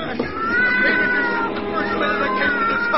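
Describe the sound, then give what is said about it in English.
A cat, Lady Susie, yowls loudly and continuously, its drawn-out wavering cries rising and falling as it writhes and scratches while a man in a cellar tries to push it into a furnace, with some rough scuffling noise underneath throughout. “drop that cat this instant.”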